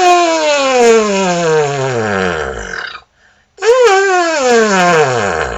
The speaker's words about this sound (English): I do a warm-up on the mouthpiece. And usually I just buzz from low to high. From high to low, also from low to high, but I start from high to low. Usually.